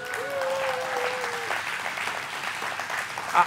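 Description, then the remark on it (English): A crowd breaks into steady, sustained applause for a speaker celebrating 40 years of marriage, a dense wash of clapping that holds at an even level throughout, with a brief whistle-like tone early on and a small louder burst near the end. “I'll do anything for a little cheap applause, but 40 years worth.”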